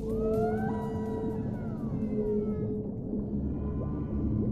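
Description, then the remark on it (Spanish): Whale song: long, eerie tonal moans and rising, falling sweeps layered over a dense underwater rumble, sustained and fairly loud throughout, with no voices. “hoy 23 de julio es el Día Mundial de las Ballenas y los Delfines.”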